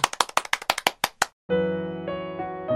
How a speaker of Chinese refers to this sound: 哎，今天开始我们这个课程的时候，是不是也应该先来一次彼此的用掌声去鼓励，去肯定大家，我们又开始一个学习了。